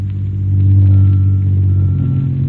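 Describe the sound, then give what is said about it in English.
A car engine hums steadily as the vehicle drives someone home on a spring evening in New York. It is a deep, loud rumble that swells briefly and shifts pitch as the motor revs. No voices are heard. “And as Mark drove me home that evening, I had a hunch that this might be the spring of all my years.”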